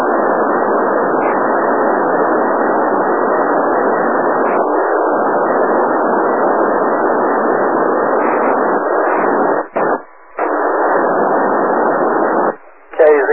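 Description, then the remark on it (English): An amateur radio transmission comes through as steady, band-limited static hiss with no clear words, cutting out briefly a few times near the end. “Thanks so much for the contact.”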